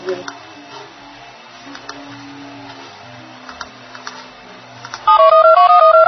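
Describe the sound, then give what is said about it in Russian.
Quiet rustling and scattered clicks give way to a loud run of electronic phone tones stepping between different pitches, the sound of an outgoing call being placed a second time from Ayurveda Radio. “Сейчас попробуем сделать второй звонок. Мы звоним вам сейчас второй раз.”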